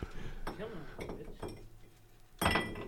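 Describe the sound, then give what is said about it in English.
Glassy clinks of dice-shaped ice cubes knocking against a drinking glass, several taps spread over a few seconds, with a louder rattle near the end and people talking in the background. “Oh, you got the official ice cubes.”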